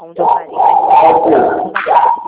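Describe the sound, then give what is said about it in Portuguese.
A dog barks and yelps during a phone call in a long, strained run of noise, breaking briefly before another burst, loud enough to dominate the moment. “Cachorro começou a latir.”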